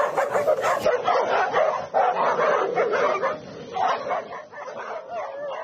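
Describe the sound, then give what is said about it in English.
A chorus of dogs in a kennel barks, yips and whines all at once, a dense overlapping din that stays loud and steady for several seconds, with no voices talking. “This is some sort of dog kennel, but they have an alpha.”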